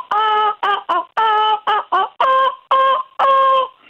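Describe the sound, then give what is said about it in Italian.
A human voice hums the tune of Bella Ciao in squawky, nasal cries imitating a seagull: about eight loud, sustained notes in quick succession with brief gaps, alone. “In tono un motivetto come fossi un gabbiano.”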